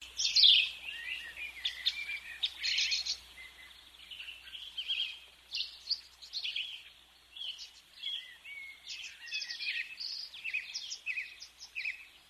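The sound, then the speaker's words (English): Lively birdsong fills the air outdoors, with many overlapping chirps and trills repeating steadily throughout, moderately loud, no voices present. “Oh, the birds beat me back.”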